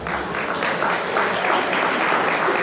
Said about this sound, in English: You are clapping for him.